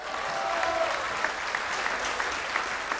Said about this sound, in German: Großen Applaus für euren Bürgermeister.